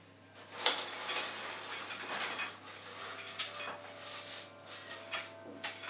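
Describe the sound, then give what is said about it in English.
A sharp clank, then a few seconds of loose rattling and scraping as cooked chips are tipped onto a metal tray and scatter everywhere, moderately loud with no talking. “So, let's go ahead and take our tray. We've got our chips on.”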